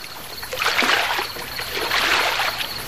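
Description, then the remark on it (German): A motorboat docks at the shore and men climb out: water sloshes and splashes against the hull in two swelling washes, with no voices. “Das Motorboot legte an und die Männer stiegen aus.”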